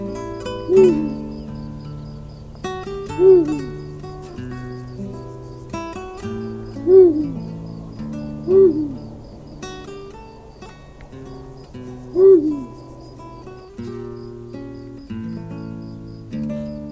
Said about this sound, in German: Das war der Uhu.